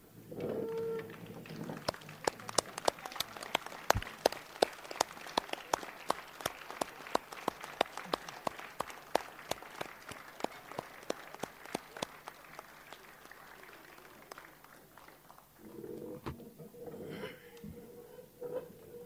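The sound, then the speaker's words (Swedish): An audience at a meeting stands and applauds performers as they pack up their instruments and leave, for about fifteen seconds, a dense rattle of many hands clapping with sharp individual claps standing out, before the applause stops and a low murmur remains. “Då tycker jag vi kan vara så att en konsertpublik brukar just ställa sig upp och applådera.”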